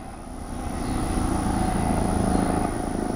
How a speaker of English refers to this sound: Recovery efforts after Hurricane Harvey are underway on the southeast Texas coast, where the weather is hot and dry, and rescue helicopters are buzzing overhead.